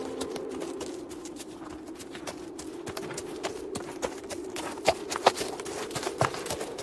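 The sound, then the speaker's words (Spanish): A horse trots along steadily, its hooves clip-clopping in a quick, regular rhythm over a constant low rumble, with a few sharper, louder hoof strikes near the end. “Horas después, el comandante y mi bisabuelo despertaron con el trote del caballo.”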